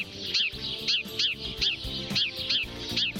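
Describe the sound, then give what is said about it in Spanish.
Sparrows chirp in a steady series of short, bright calls, about two per second, over a low, continuous tonal background that sounds like a soft music bed. “Y ahí van a salir estos sonidos porque Raúl nos va a hablar de los gorriones.”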